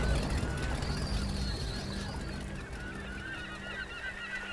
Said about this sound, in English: Day gulls wheeled, their cries like the cries of the dead upon the waves.